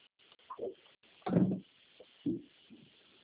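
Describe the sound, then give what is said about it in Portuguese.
A door being opened, heard as a short series of muffled clunks and thumps with the loudest knock in the middle, fairly quiet, with no one talking. “Só deixa eu abrir a porta aqui rapidinho.”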